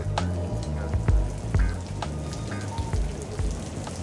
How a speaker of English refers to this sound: It was during one of those summer rains.